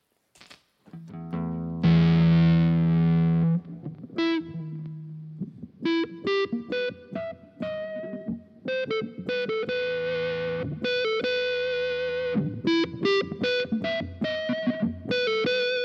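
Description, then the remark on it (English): A smooth, sustained electric guitar tone with a singing, violin-like quality plays a melodic phrase of held notes and quicker runs, fairly loud, with no voices. “You know, it's a very smooth, almost violin like.”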